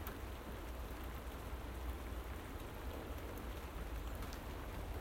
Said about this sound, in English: At least, on the positive side, it's that beautiful straight down rain, and it's reasonably mild for the time of year. With no wind, it's actually pleasant standing in the rain.